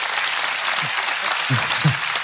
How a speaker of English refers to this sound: And one woman is clapping on the front row really loud right now.